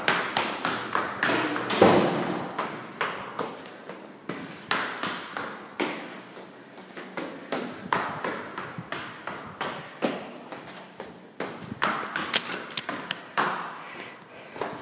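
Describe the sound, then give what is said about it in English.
Steady footsteps thud and tap in a quick, even rhythm as someone climbs two floors of stairs in a stairwell at a brisk pace. The steps sound clear, with no talking. “Up two floors.”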